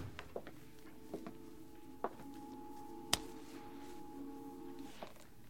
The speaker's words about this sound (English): So we went into the back room of the pool room. He closed the door.